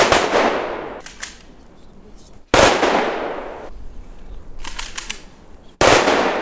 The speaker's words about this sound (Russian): И сегодня под последние выстрелы.